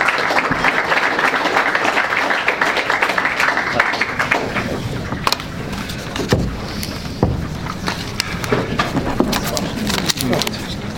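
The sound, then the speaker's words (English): An audience applauds a panel, with dense, steady clapping that holds at an even level for around eleven seconds, thinning slightly toward the end with a few sharper individual claps. “But a round of applause for our panel, please.”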